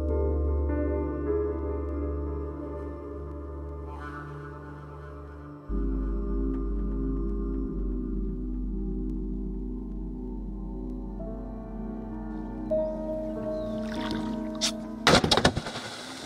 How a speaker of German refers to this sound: Ein hässliches Geräusch, das man im Lebensraum des Bangai-Kardinalfisches in Indonesien täglich mehrmals hört. Fischer werfen Sprengsätze ins Wasser. Das tötet die Fische augenblicklich. Schnelle Beute ist garantiert.